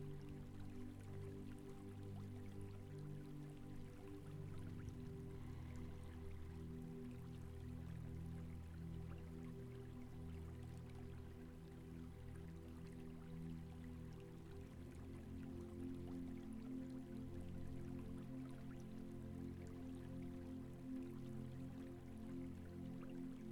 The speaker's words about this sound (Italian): Permetti alle onde, allo scorrere dell'acqua, di farti fluttuare, di farti accompagnare sempre più nel profondo.